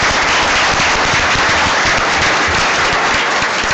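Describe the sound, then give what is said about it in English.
A crowd applauds steadily for students on stage, a dense wash of many hands clapping at once, loud and sustained for the whole stretch with no voices rising above it. “Another round of applause for our wonderful students up here.”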